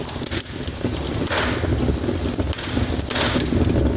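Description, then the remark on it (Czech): An open-air fire of old railway sleepers, with about ten refugees and migrants gathered before it at night near abandoned buildings by the Belgrade bus station, Serbia, burns steadily for four seconds, a continuous rushing roar with dense small crackles and pops throughout, fairly loud and with no voices. “Njih desetak okupljeno je pod otvorenim nebom, pred ognjem za čije raspaljivanje su iskoristili stare željezničke pragove.”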